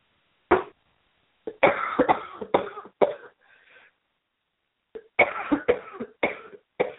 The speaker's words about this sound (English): The sounds of my cough are telling me more water is required into me.